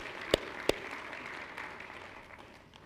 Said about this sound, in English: If you believe that prayer, why don't you give the Lord a hand clap this morning. We love you, Lord.